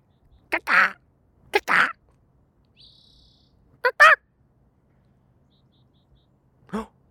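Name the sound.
person imitating bird calls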